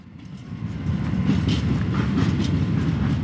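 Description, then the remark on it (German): A steady, loud low rumble of a train rolling along the rails, with faint clattering and a few brief hissy squeals over the continuous drone, no voices; a train from Gevgelija toward the Serbian border carrying hundreds of refugee men, women and children. “Im Zug sitzen auch hunderte Männer, Frauen und Kinder aus Afghanistan, dem Irak und anderen Ländern.”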